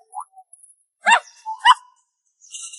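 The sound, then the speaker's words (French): A small dog gives two sharp, high-pitched yaps with a brief whine between them, followed by a thin, high whimper; a few faint chirpy sounds come just before. “C'est une nouvelle maison pour le petit chien.”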